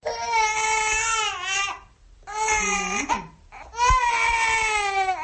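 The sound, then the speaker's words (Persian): A newborn baby girl wails in three long, high-pitched bursts separated by brief pauses for breath, loud, with no one else speaking. “صدای گریه ای طفل نوزاد است که برابری به دنیا آمدنش سببگار اختلافات میان پدر و مادر و به هم زدن یک اویلا گشته است.”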